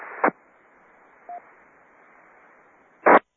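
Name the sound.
telephone dialing tones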